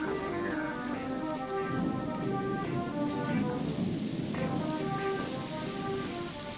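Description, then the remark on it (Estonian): Gentle, steady rain patters continuously with a soft hiss and scattered drops, accompanied by a low sustained musical drone underneath; no voices. “Vaikne vihmasahin kostab ta ümber.”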